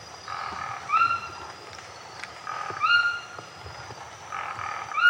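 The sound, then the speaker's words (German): Dense rainforest ambience in the rainforest around Manaus, with a constant insect or frog chorus, punctuated by repeated rising bird whistles and calls that swell roughly every two seconds, with no one speaking. “Und wir betreten jetzt mit Gudrun Fischer den Regenwald um Manaus.”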